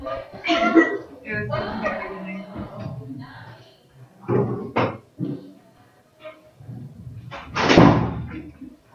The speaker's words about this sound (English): Can you, you close the door? Thanks.